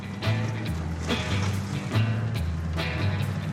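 The heavy engine of a 32-year-old truck rumbles roughly as it is started, coughing and sputtering in uneven bursts about once a second as it strains and fails to settle into a steady idle.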